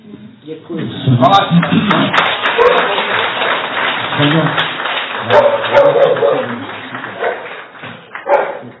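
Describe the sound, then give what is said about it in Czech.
Sustained applause from a crowd fills the scene while a dog, which barks whenever people clap, barks repeatedly and loudly along with it, with some voices mixed in beneath the clapping. “On vždy, když tleská jí lidi, tak on štěká.”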